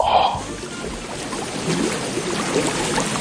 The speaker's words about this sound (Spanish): Si en estos momentos no te puedes acercar a un río, vamos a traerte el río a la radio. Escucha.